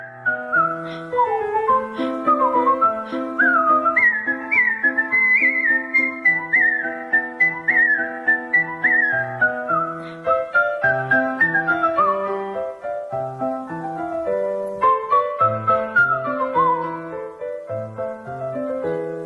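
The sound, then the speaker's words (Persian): A lively whistled melody of Mozart's Turkish March, from his Piano Sonata No. 11, quick ornamented notes running up and down over a steady plucked or piano-like accompaniment, clear with no talking. “حالا یه اثری که تازه از موزارت زدم ترکیش مارچ، قسمتی از سونات شماره 11 پیانوی موزارت که یکی از مشهورترین این آثار پیانوی موزارت.”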